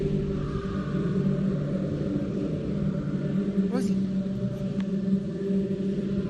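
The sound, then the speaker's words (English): Echoing, chant-like music drones steadily from somewhere deep within a sewer, heard through the holes of an old-looking sewer cover, a dense hum of low, layered tones with no clear words, broken only by a brief high sweep midway. “Through the holes in the cover, we can hear what sounds like echoing music coming up from somewhere deep within the sewer.”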